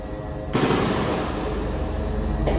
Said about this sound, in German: Schüsse sind in den Videos zu hören, Explosionen sind zu sehen. Den Berichten zufolge waren israelische Kampfeinheiten in der Nacht auf das Gelände des größten Krankenhauses im Gazastreifen eingerückt.